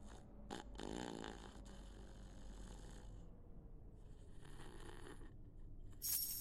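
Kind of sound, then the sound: human body sound, man snoring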